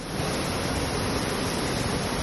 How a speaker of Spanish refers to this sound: Con esta fuerza que vas a escuchar, bajaba ayer el agua por las calles de Herrera de los Navarros en la comarca de Campo de Daroca, en la provincia de Zaragoza.